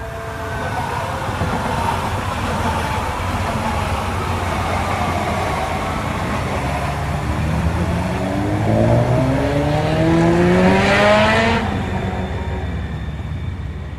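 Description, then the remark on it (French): Steady road rumble from inside a moving car, with the engine pitch climbing as it accelerates near the end. No one speaks. “C'est en quelque sorte pour rendre hommage au fait qu'il m'a beaucoup aidé à l'acheter, que je balade Andrzej à l'intérieur de cette voiture et qui me suit partout.”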